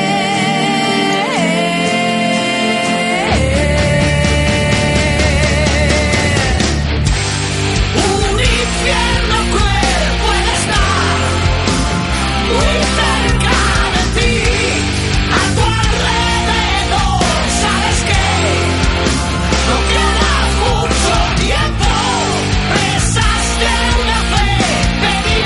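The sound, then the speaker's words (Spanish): A loud rock track from an album by a band from Cádiz plays throughout, opening with a brief sustained intro before the full band kicks in with driving drums, dense guitars and what may be strained vocals. “ha saltado otro corte, el que venía siguiente, que es el …”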